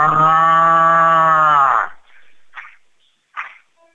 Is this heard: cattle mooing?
yes